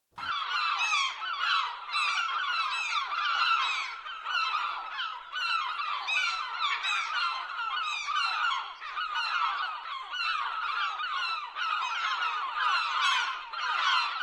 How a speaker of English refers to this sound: Now here's your first chance to hear our squawking seagulls I mentioned during the introduction.